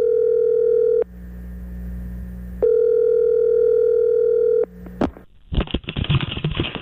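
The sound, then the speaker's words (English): A telephone ringback tone purrs twice in long steady bursts with a pause between, then a click and a rustling clatter as the handset is picked up, on a call to Jerry Jones's mansion. “But first, let's give Jerry Jones a call.”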